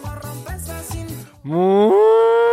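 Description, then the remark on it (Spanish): A cow named Clavel lets out a long, loud moo that swells and holds for about a second, coming after a short burst of choppy, stuttering sounds. No one speaks. “La vaca clavel está buena.”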